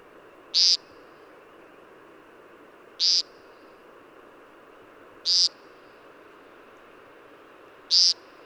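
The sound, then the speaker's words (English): A male American woodcock (Scolopax minor) gives four short, buzzy nasal display calls to attract females, evenly spaced a couple of seconds apart. They stand out clearly over a steady hiss of evening background ambience. “Males of the American woodcock, Scolopax minor, make this buzzy sound at dawn or dusk as part of their display to attract the ladies.”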